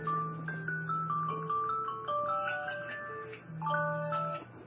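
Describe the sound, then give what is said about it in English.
A personal alarm goes off, playing a bright electronic melody of stepped, sustained notes over a low droning tone, steady and fairly loud throughout with no one talking. “Sorry about that. Personal alarms.”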